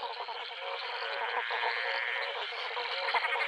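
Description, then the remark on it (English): A dense, continuous chorus of frogs of 11 species calling at once in a pond beside a railway line in dry inland Queensland, layered trills and croaks, deep from the bigger frogs to high-pitched from the smaller ones, steady and fairly loud throughout with no voices. “A little bit inland in Queensland, we're driving through very dry country, and I heard this incredible chorus of frogs in a pond beside the railway line, and I thought, wow, this is good.”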